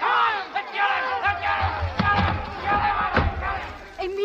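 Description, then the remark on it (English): An angry mob outside Zola's house shouting over one another and calling to kill him, a dense roar of overlapping raised voices with occasional sharper yells and dull thumps as things are thrown at the house, loud and continuous throughout. “The crowd. They're after me.”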